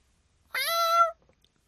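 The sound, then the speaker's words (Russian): A single drawn-out meow from a male cat at the door, about half a second long, clear, with a slightly falling tone and quiet surroundings before and after. “Кот был тот самый, вчерашний агрессор, посягнувший на чужой подвал, и, как видно, не слишком удачно.”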